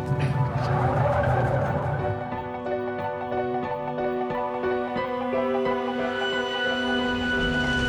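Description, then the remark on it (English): A car whips around at speed, its tires squealing and skidding in a long, loud, sustained screech with an engine roar underneath, with no voices. “So turn around, quick.”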